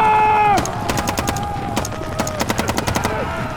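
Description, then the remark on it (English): A voice shouts an order to fire and cuts off, and a volley of gunfire erupts: many sharp, loud shots in irregular rapid bursts, continuing for about three seconds over a steady mechanical drone. “If any of you want to live, you get ready to fight now. We ride now for the tribe! Fire!”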